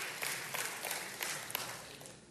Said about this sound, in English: Come on, moms. I thought I would have got a little bit more applause from y'all on this.